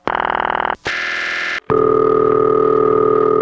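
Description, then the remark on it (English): A loud electronic telephone ring tone from a Bell System number 5 crossbar exchange, in three steady bursts separated by short gaps. Each burst has a buzzing, harmonic-rich pitch that shifts between segments, and the last one is longer and lower. No voices. “And this particular ring is only found on number 5 crossbar. So that's a bell system ring.”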